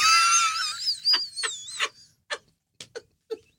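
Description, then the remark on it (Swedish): A shrill, wavering child's scream lasts about two seconds, then breaks into several short, sharp yelps spaced apart, fairly loud with no talking. “Eller så skriker ungen så här.”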